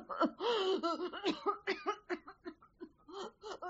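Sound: coughing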